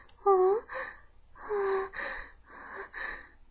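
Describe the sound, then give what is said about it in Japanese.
Heavy, ragged breathing from behind a man's ear: three loud, uneven breaths with a wheezy, strained voiced edge, each drawn out and separated by short pauses. “彼の耳の後ろから、荒い息遣いが。”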